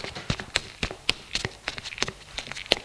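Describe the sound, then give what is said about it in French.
A door opens, then quick, sharp footsteps tap along a corridor, a dozen or so crisp hits in an uneven, hurried rhythm, moderately loud with no voices. “Tout à coup, elle entend une porte qui s'ouvre. Des pas dans le couloir.”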